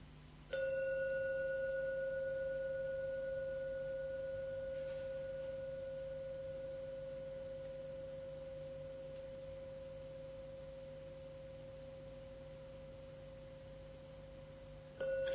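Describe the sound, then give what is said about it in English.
A single gong stroke rings out with a steady, humming tone and bright overtones, slowly fading over many seconds until a second stroke sounds at the very end. No one speaks. “Listen and drink every sound from the gong.”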